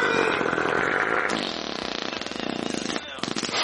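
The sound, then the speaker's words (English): A long, loud, sputtering fart stretches over several seconds, its raspy tone breaking into a rapid flapping rattle, pausing briefly, then ending with one last short burst. “I just realized that you paid $994 for gas when I have some gas right here for free”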